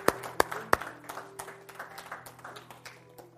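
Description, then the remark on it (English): A church audience claps and applauds for the mothers, opening with three loud, sharp claps, then settling into a dense, steady patter of many hands that gradually softens. “Let's clap for our moms today.”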